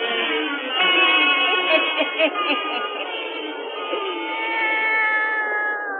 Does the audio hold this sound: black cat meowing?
yes